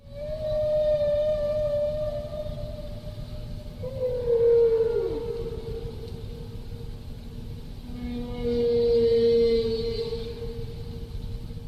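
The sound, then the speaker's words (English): A whale song phrase of long, sustained tonal moans that glide and bend, with a pitch drop midway and a rising, yodel-like repeat at the end over a low rumbling background. “Now that's one phrase, and the whale repeats its phrase and sort of yodels the second time.”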